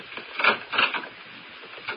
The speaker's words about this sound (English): Oh, some idiot ran into me and everything I was carrying scattered all over. But I saved the bottle.